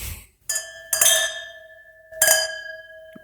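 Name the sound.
wine glasses clinking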